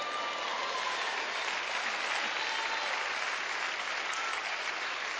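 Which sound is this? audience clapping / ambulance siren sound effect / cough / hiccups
audience clapping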